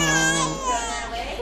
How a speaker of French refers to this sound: 4 février 2016, cette fois. Nous sommes à la maternité. Le bébé qui pleure,